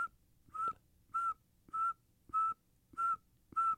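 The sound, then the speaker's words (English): A person whistles an imitation of a northern saw-whet owl: six short, steady, mid-pitched toots repeated at an even, quick rhythm, with no talking. “But if you're going to make me imitate mm-hmm, one, it would be the northern saltwood owl, because it just sounds like.”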